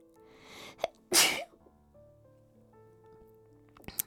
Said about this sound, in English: hold on, I'm gonna sneeze.